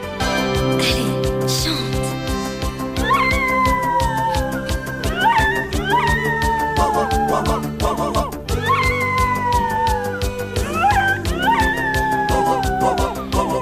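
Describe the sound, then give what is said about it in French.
A dog howls along with a loud, rhythmic song, its wavering, gliding yowls rising and falling in repeated phrases over the steady music; it is the dog the female singer sings about in the song. “Eh bien non, ah ben non, le pire arrive maintenant, car le chien dont elle parle dans la chanson, il va chanter, enfin chanter.”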